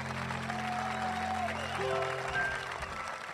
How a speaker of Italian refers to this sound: Tommy è felice e si prende gli applausi di tutto il reparto.